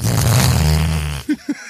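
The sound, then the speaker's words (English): A loud, buzzing fart-whistle blast rasps for about a second, low and flappy, then cuts off, followed by two short, soft puffs of the same noise. No talking. “Look at the fart whistle he's got.”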